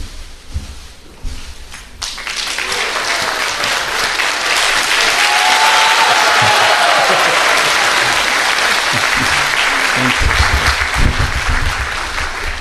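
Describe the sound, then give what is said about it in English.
A crowd bursts into sustained applause, many hands clapping in a dense, steady roar that swells after a brief quiet start and holds loud to the end. “Love that clapping.”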